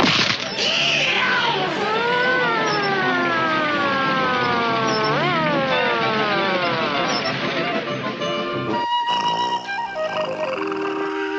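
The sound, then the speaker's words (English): A voice imitates a police siren while another person drives, with loud, wailing glides that rise and fall for several seconds, then gives way to other tones. “Sarge, you be the siren for a while I drive.”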